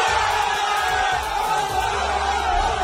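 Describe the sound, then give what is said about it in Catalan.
Players of Vic Unió Esportiva shouting and cheering together after being drawn against Atlético de Madrid in the cup draw, a dense, loud wall of excited voices with whoops rising over it, sustained for a few seconds without pause. “Aquests crits són els del jugador del Vic, que els ha tocat el premi gros del sorteig.”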